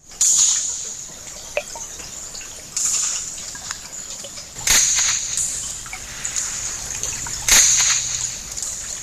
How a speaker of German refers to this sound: das, was da wie ein Schuss oder das Knacken von einem dürren Ästchen tönt, das ist ein Zander, ein Fisch beim Jagen.